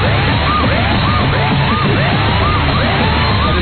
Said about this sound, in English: Running the siren himself. Yeah, he's got an instant replay like you do. Oh, he's got the button. So he's just sitting there in the golf cart.